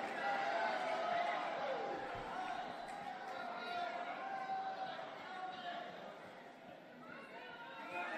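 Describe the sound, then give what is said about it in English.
A large Republican Party crowd boos a speaker steadily for several seconds, a dense wash of many voices jeering together without letting up, loud throughout. “It's booing the one sane guy who's willing to go up there and just tell some uncontroversial truths.”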